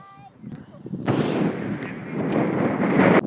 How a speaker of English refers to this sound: Well, you might be able to hear that the weather has taken a little bit of a turn. It's starting to get very blustery and windy. And so if you're having trouble hearing what I'm saying, then I apologise.